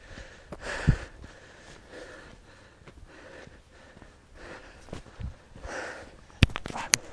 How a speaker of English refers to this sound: Anyway, I felt awkward silence of us just breathing. You're wondering what we were doing. I'm not. We only ran for like 5 seconds. I'm already out of breath.